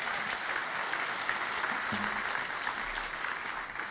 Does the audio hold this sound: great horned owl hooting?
no